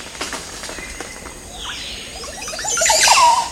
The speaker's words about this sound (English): Recently, Bird Note looked closely at a male Montezuma oropendula as it performed its gymnastic song display in a Central American forest. We return today to this flamboyant singer as he holds forth in a tree bedecked with 20 or more oropendula nests